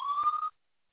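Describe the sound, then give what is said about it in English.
A brief emergency vehicle siren tone in Brooklyn, one steady high-pitched wail with a shrill overtone, holds for about half a second and then cuts off abruptly into silence. No voices are heard. “You know, I'm in Brooklyn, so fire trucks, emergency medicals everywhere.”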